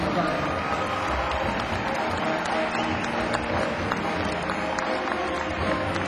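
A dense, steady wash of audience applause for a band with piano, bass, tenor saxophone and drums, many hands clapping at once with some crowd noise mixed in, sustained at an even loudness throughout.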